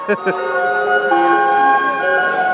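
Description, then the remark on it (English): The old calliope of the Belle of Louisville steamboat plays loud, sustained whistle-pipe notes that hold and shift between several pitches as passengers line up to board, filling the whole stretch after a couple of short bursts at the start. “The old Calliope is going pretty strong.”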